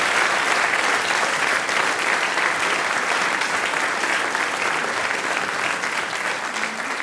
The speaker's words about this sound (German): Noch einmal einen Applaus für unsere Gäste aus Tschechien.